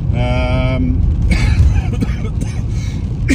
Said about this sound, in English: excuse me, still lingering cough.